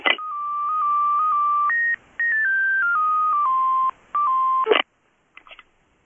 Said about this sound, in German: Es muss doch mein Telefon klingeln. Warum rufst du dich an?